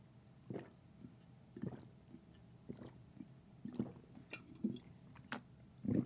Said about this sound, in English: Let me take out these bad boys and have a sip of my caffeine.